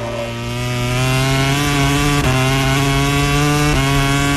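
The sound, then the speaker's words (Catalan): Zarco's racing motorcycle screams loudly at high revs while trying to overtake Aleix Espargaró's Aprilia in a race, a steady buzzing whine that dips briefly twice as it shifts gears, with no voices over it. “El so en directe de la moto de Zarco intentant superar l'Aprilia d'Aleix Espargaró, que ara mateix sembla que té les coses un palet més clares.”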